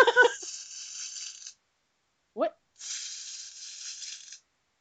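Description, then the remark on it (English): A tinsel sound effect: tinsel crinkles and rustles in two bright, hissy bursts of about a second and a half each, separated by a short pause in which a voice briefly speaks. “Let me ask you all, in your opinion, what do you think tinsel sounds like? Does it have a sound?”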